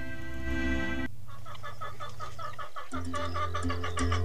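A hen clucks in quick repeated bursts, fairly loud, over a steady musical backing that opens with a brief sustained chord.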